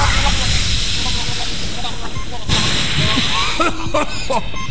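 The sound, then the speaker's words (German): A fire extinguisher sprays at a chimney fire in a loud, steady rushing hiss that runs continuous for several seconds, with muffled voices and brief clatter toward the end. “Schnell eine Feuerlöscher. Du mach schon. Hier, gib Gummi.”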